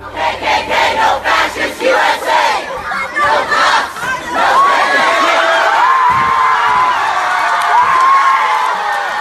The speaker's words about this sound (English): That sound of a protest crowd last evening in Durham, North Carolina, pulling down a Confederate monument outside the old Durham County Courthouse.